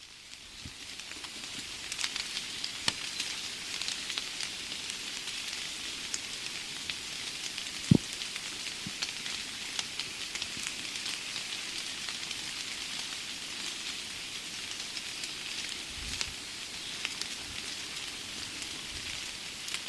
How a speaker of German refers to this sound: Und so klingen Regentropfen auf Buche.